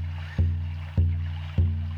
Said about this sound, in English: So let's think about the sound that we're hearing in addition to the drum, which is the moving water tumbling over itself and tumbling over stones and rocks and boulders.